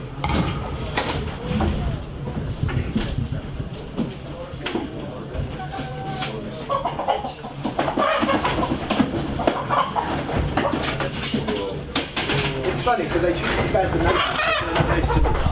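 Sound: chicken clucking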